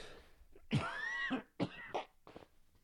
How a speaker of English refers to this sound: I got to cough again.